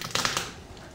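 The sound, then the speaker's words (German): A garlic clove pressed under the flat side of a knife blade to loosen its skin gives a few sharp, crackling crunches in quick succession, then fades to a faint rustle. No one speaks. “Tolles Geräusch. Ja, wie wenn Knochen brechen.”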